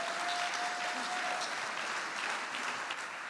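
An audience claps steadily throughout, a dense, even wash of applause at a constant level with no voices standing out, plus a faint thin tone briefly at the start.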